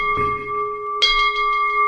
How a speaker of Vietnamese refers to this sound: Đấy, thì chúng ta khi bảo quỳ rồi thì chúng ta bắt đầu thỉnh ba tiếng chuông.